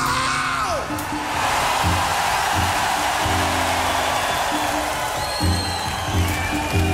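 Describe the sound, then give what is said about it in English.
A large outdoor concert crowd in Lugano, in the dark, screams and cheers at the performer's urging in a loud, unbroken roar for the whole stretch, with high whoops and whistles rising out of it and a low, pulsing hum underneath. “Now, I'm going to pump you up one more time, Lugano, and I want to hear the mountains shake when you scream.”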